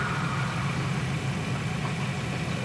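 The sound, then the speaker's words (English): A steady, engine-like hum from a Mercedes electric car's pedestrian warning sound drones on without a break, a low idling rumble with a faint higher tone on top, alone. “Mercedes didn't stray too far from the traditional engine sound.”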